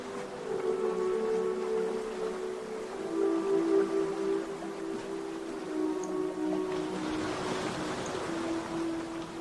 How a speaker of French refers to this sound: Vous percevez le bruit des vagues qui s'échouent non loin de vous.